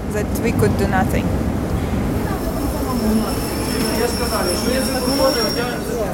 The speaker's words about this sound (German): Der Bahnhof von Lviv. Ein neoklassizistisches Gebäude mit einigen Jugendstilelementen. Fertiggestellt Anfang des vergangenen Jahrhunderts. Ein Wahrzeichen der Stadt.